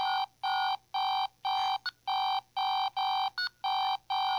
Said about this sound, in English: Mine's just doing that. Was just doing that alarm. I didn't press anything to make it happen. I'm not kidding. Like, that wasn't me turning on and off really fast. It just started doing that. It got angry.